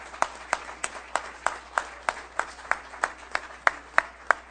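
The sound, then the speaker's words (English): Steady, rhythmic clapping with about fifteen distinct, evenly spaced claps, moderately loud, with no talking over it: applause for the mayor after being sworn in. “Applause for our mayor.”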